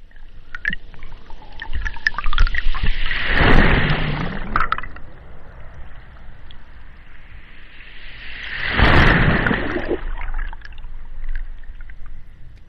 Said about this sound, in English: Can we guess this is the ocean? Yes. So you're hearing the water there, and that recording was made with a hydrophone.